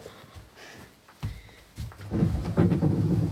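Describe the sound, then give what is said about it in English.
Low, rolling thunder from a storm rumbles in after a quiet moment, building in bursts and swelling into a loud, sustained roar by the end. “Hey, Storm. You out there?”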